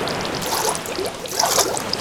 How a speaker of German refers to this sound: Ehrlich gesagt, was ist denn das überhaupt für ein Geräusch? Das blubbert so komisch.